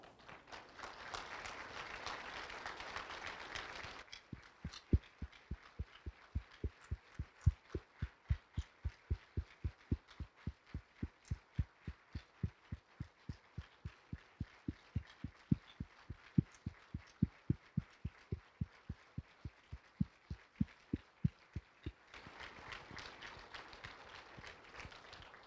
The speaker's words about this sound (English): Because I want to say that all of us in this congregation not only stand with you, we also stand for you now, and we applaud you and we thank you.